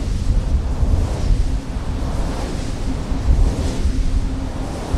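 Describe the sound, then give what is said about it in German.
Strong wind roars steadily across hilly moorland south of Glasgow, Scotland, a dense, buffeting rush with rumbling gusts battering the microphone. No voices, just continuous blustery noise. “Kräftiger Wind bläst über das hügelige Moor südlich von Glasgow und pustet die flauschigen Pollen der Weidenröschen auf das Jeanshemd”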